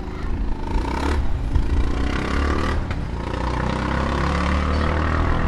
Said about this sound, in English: Down there's a motorbike.